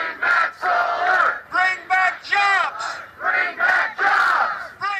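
A crowd of hundreds of solar customers and workers chants and shouts in unison at the offices of Nevada regulators in Las Vegas, protesting abrupt changes to solar panel rates; loud voices rise and fall in rhythmic bursts with short pauses between phrases, like a repeated protest slogan.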